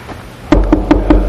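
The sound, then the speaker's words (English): Four firm, evenly spaced knocks on a wooden door, loud, with a steady rhythm and no voices. “Knocking on the door of your heart.”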